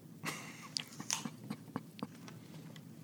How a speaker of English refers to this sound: All right. I'm just going to munch this moist apple with my teeth.